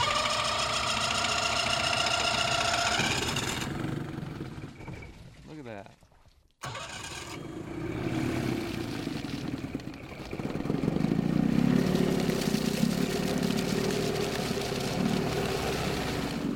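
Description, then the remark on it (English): A four-cylinder two-stroke outboard motor with a jet foot, run with the foot in a big tote full of water, runs loud with a buzzing, revving drone, cuts out briefly, then comes back to a steady, deeper rumble. “It sounds like it's running on all four cylinders.”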